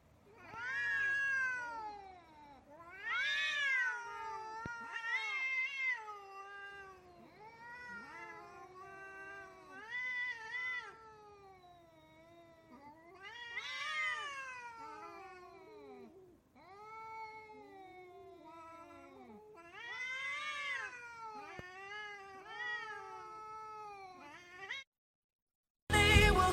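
Cats meow and yowl almost nonstop, long drawn-out rising and falling cries overlapping one another, loud, before a brief pause and a final burst.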